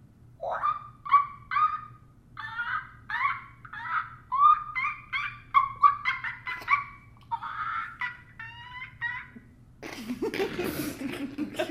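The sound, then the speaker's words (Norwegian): A person imitates a tired little monkey with a long run of short, breathy hooting whoops in a quick, uneven rhythm, ending in a harsh, noisy outburst. “Du skal være en trøtt ape.”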